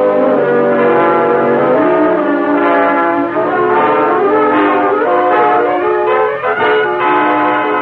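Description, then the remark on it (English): The distinctive horn of the Green Hornet's car, outside, blares continuously for several seconds, a loud, rich, multi-tone wail whose pitch wavers and shifts slightly, with no talking over it. “there's a car outside. It looks like that one we heard about. There it is. Hear it?”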